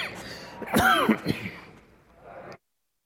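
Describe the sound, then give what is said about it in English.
A person coughs and clears their throat in a short, rough burst of a few harsh hacks, fairly loud, then the sound trails off into quiet. “Does anybody have cough drop?”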